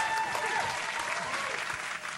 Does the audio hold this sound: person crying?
no